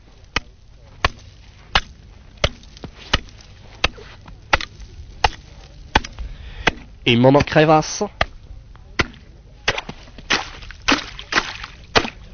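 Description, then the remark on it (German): After snow is scraped away, a man chops a hole in ice with a pick hammer to measure ice thickness: steady sharp, loud strikes, roughly one per half second, broken briefly by a short stretch of speech before the chopping resumes; water rises to the surface in the hole, about 10 to 15 cm deep. “Zuerst wird einmal der Schnee weggescharrt und jetzt geht schon bereits Pickeln los.”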